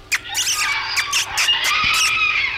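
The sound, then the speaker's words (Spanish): A spider monkey lets out a run of shrill, squealing shrieks, several sharp bursts tumbling over one another with no talking. “¿Y cómo reconozco la voz del mono araña? Es como un chillido.”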